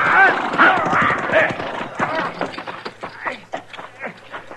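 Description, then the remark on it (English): A horse whinnies loudly and shrilly at the start, then hooves clatter in a quick, uneven rhythm that continues to the end, fairly loud. “He got my horse, but I'm pinned down.”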